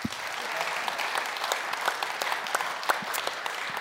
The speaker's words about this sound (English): A round of applause.